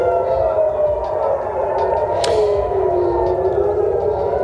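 air raid alarm siren

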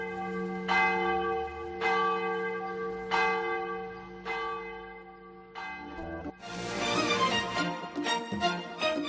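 cathedral church bells ringing

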